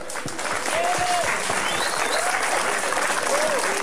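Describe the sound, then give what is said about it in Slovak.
A crowd applauds steadily for everyone who came and took part in the event, a dense and continuous patter of many hands clapping at a fairly loud level, with a few faint whistles or cheering tones rising over it. “Takže veľký potlesk, zatliskajme si všetci.”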